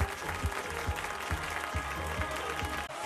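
A crowd applauds in a dense, steady wash of clapping, with a regular low thump running beneath it like a rhythmic beat throughout.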